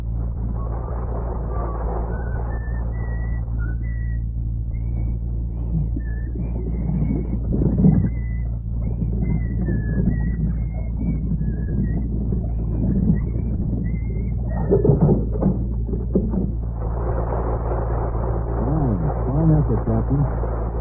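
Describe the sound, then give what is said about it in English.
A man whistles the naval march Anchors Aweigh from a low position to propel a model warship, in a string of short, bright notes over a steady low mechanical rumble, with scattered clattering noises near the end. “whistling anchors away from a low position to propel a model warship.”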